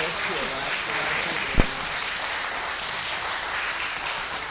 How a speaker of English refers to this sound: One more round of applause, folks.